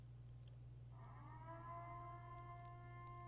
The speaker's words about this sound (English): That's the siren.